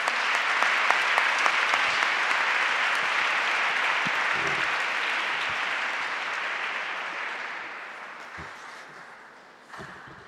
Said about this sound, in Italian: Gli facciamo un applauso prima di iniziare.